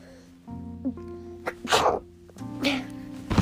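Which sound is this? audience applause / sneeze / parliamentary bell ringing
sneeze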